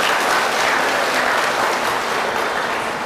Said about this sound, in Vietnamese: Thì cho một tràng vỗ tay thật lớn nào.